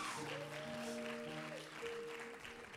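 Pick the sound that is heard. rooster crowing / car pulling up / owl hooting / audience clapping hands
audience clapping hands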